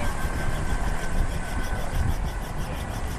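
A helicopter flown for the Northern Biosecurity Group returns overhead after a flight, its loud, low engine rumble carrying a quick, regular rotor pulse throughout, with no voices.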